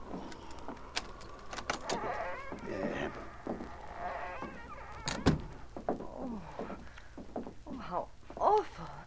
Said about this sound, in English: Oh, it needs repairing. I'll unlock the door.